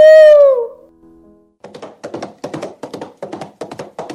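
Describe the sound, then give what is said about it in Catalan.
A single short, loud wolf howl opens with a falling pitch and fades quickly, followed by a steady series of about eight rhythmic thumping beats, like hooves or tapping. “Tots els llops et dedicarem una cançó cada nit. Au!”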